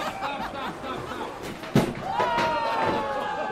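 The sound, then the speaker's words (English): In a belt sander race, a belt sander surges to life, whirs along its track and almost immediately hits the spring-loaded stop at the end with one sharp, loud slam. Its motor keeps droning afterward over a steady background of crowd chatter. “surges to life and almost immediately slams into the spring-loaded preventer at the end of the track.”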